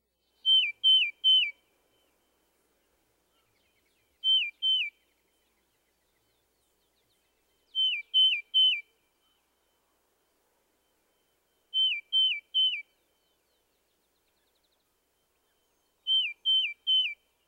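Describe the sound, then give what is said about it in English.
A tufted titmouse sings its whistled song: clear, slightly downslurred whistles in quick bursts of two or three notes, repeated five times with pauses between, crisp against silence. “The tufted titmouse's whistled song has two basic variations. At times, he sings a slightly downslurred, here, here, here.”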